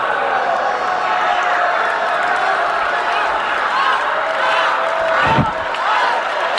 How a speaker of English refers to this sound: Up. Yelling up. It sounds like the Chiefs victory parade.